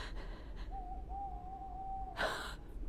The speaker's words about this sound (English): Peace! It was the owl that shrieked, the fatal bellman which gives the sternst good night.